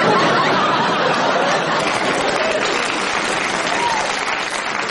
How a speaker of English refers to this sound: I don't know what you're clapping about. You come every week.